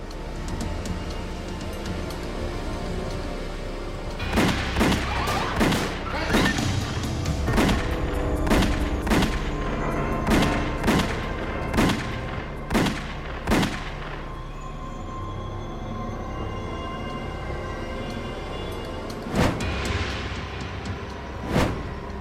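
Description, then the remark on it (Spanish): A rapid volley of about a dozen sharp, loud gunshots cracks out over a low rumbling background as killers shoot two men by a car stopped at the curb, then after a brief lull two more shots ring out. No one speaks. “Paul Castellano y Tommy Bilotti yacían fuera del auto, cada uno con 6 disparos”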